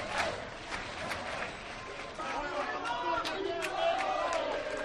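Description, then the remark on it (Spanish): A large crowd of Club Deportivo Tenerife football fans in Tenerife chants "Sí se puede" as the team boards buses to the airport before a playoff semifinal derby, a loud, steady mass of voices punctuated by sharp, repeated claps or bangs, swelling slightly louder toward the end. “Escuchamos el Sí Se Puede.”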